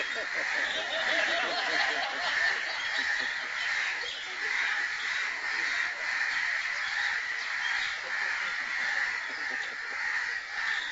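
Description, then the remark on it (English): A dense, agitated chorus of birds calling over one another, harsh crow-like caws blending into a loud, continuous clamor that never lets up. “Prabhupada also became quite disturbed, as the birds are”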